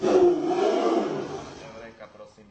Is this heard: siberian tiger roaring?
yes